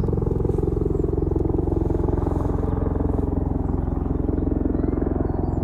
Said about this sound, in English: My little grandson, he's out looking for the helicopters as soon as he hears them, and I'm not really hearing them now.